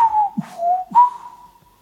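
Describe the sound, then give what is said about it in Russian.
A person whistles a three-note phrase, G, F, B-flat, imitating a thrush's song: a clear tone that dips lower for the middle note, then rises for a longer final note that gradually fades out. “совершенно точно поет соль, фа, си бемоль за мной.”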